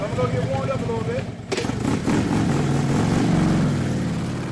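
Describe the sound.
A motorcycle engine revs and roars close by, its rough drone rising and holding steady after a brief lull, with voices mixed in at the start.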